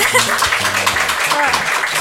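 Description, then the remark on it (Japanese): A canned applause effect played on a radio show: dense, steady clapping from a crowd, loud, filling the full two seconds with a faint low tonal backing underneath. “すごい、毎回拍手してくれる、いいね、このシステム、これからもよろしくお願いします”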